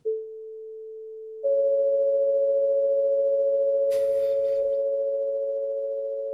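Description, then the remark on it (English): A pure sine tone sounds alone, then a second sine tone joins an equal-tempered major third above. The pair holds steady with a faint beating roughness, and a brief noisy rustle passes midway. “So that's the overtone major third. And here's what we actually get on the piano.”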